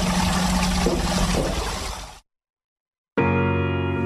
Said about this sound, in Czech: verujem da je i vama prijao ovaj lepi žubor vode.